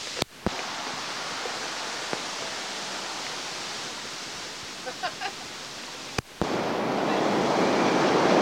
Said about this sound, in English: Just waiting for the L train. Didn't realise it was going to be so noisy. I'd have bought some ear protection.